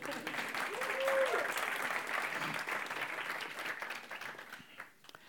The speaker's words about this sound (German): Applaus für das Bühnenbild.